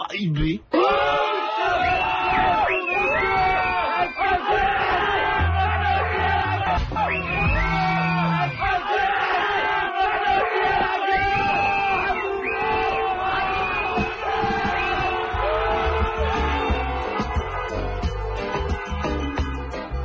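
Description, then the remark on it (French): A crowd of people in a traffic jam yell and shout over one another, loud and sustained for the whole stretch, with a low rumble underneath like idling traffic. “c'est normal que les gens hurlent, hein, les embouteillages.”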